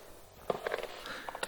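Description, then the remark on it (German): Slow, wet, sticky footsteps come down a stairwell staircase one step at a time at 2:20 at night, soft uneven thuds growing louder against a quiet background. No one speaks. “Langsame, feuchte, klebrige Schritte, die lauter werden.”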